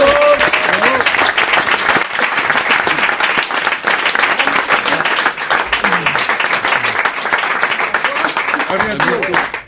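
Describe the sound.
An audience applauds steadily for the whole stretch, a dense, loud patter of many hands clapping, with faint voices and cheers rising now and then beneath it.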